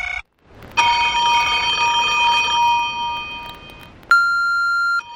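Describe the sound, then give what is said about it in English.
A telephone bell rings loudly in one long, sustained trill, cut off abruptly, then a steady electronic buzz sounds for about a second. Clear, with no talking. “I hadn't answered a phone since then, and I had no intention of doing so now.”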